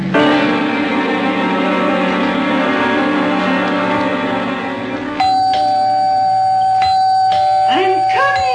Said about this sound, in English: I'm coming. Don't have to rip the bell off the door, young man.